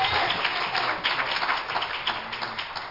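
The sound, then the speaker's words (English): A church audience applauds Jesus at the end of a prayer with a dense, steady wash of many hands clapping at once, loud, sustained for a few seconds without any talking. “One more hand clap for Jesus, and you may be seated.”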